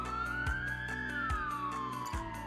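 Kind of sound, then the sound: vehicle, ambulance siren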